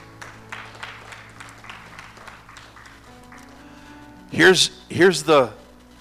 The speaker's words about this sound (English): Somebody give the Lord a good hand clap this morning.